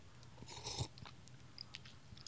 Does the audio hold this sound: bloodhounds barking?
no